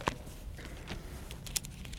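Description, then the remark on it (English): A Bible page turns to Hebrews chapter 11 with a soft papery rustle, two brief crinkling flicks standing out from an otherwise quiet, low hum, with no voices present. “I just hear my page turning.”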